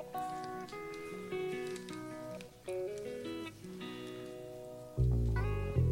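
A soul song with a Motown feel plays on its own, with warm sustained chords over a steady bass line, swelling noticeably louder near the end. No voices are heard.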